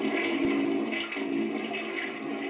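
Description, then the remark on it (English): A toilet flushes in one steady, rushing whoosh of water that stays loud for a couple of seconds, with a brief dip midway and no voices. “We just flushing your ass down the toilet.”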